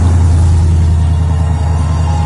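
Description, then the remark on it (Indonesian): A minibus carrying seven people drones loudly, a heavy low rumble that holds steady and strained throughout as it struggles along a damaged, poorly lit road in thick fog on the way to a villa, with no voices. “Sampai minibus yang kami topangi bertujuh itu pun rupanya cukup kesulitan.”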